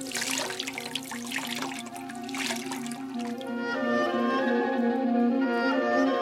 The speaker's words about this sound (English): pour this water over my hands that I may wash.